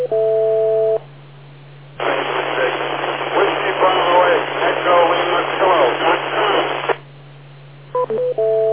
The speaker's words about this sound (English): Extremely noisy signal. Unless you can do something to make it stronger, I don't think we're going to be able to.